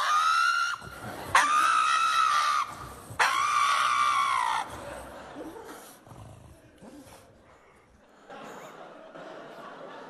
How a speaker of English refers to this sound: a pug dog can actually scream like a human if you try to cut its nails